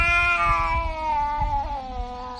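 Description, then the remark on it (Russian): A cat squeals and meows in one long, drawn-out, whining cry that wavers slightly in pitch, loud, with no one talking. “Если кошку закрыть в комнате, на полу которой разбросаны шарики, то издаваемые этой кошкой писк и виск сполна охарактеризовали бы русскую речь.”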